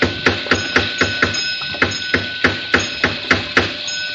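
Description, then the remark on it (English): A steady series of about fourteen sharp metallic raps on a heavy vault door, each knock ringing with a bright clang, evenly paced and fairly loud, with no voices. “I'll try rapping again.”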